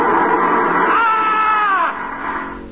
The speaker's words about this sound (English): On the morning of June 15th, Guy Burkhart woke up screaming.